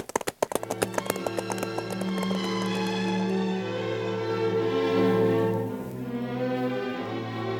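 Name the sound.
donkey hooves clip-clopping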